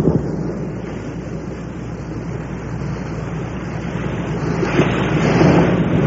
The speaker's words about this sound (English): And when I was up there, I recorded the sound of the Bering Sea, just the way the sound of this strange, milky sea sounds. And here's the way the sea sounds, just out there.